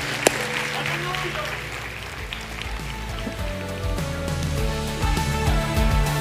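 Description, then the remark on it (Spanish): An audience claps hands as an offering of applause in a steady, dense burst that lasts the whole stretch and grows slightly louder toward the end, with voices mixed in beneath the clatter. “Porque damos una ofrenda de palmas, hermanos queridos.”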